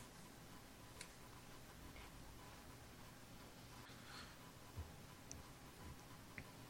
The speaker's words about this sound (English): And, you know, all schools have a grandfather clock in them. Especially one that ominously loud. Like, you gotta have some big fucking cogs in that thing.